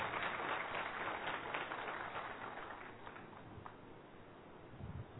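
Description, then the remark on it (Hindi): An audience claps steadily to thank a speaker after a session on digital detox, a dense, crackling wash of many hands that holds for several seconds and then eases off slightly toward the end. No one speaks over it. “तालियों से सब धन्यवाद व्यक्त करेंगे।”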